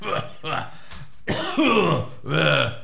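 old man coughing

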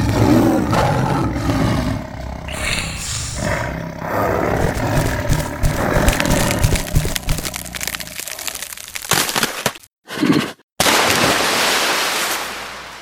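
tigers roaring

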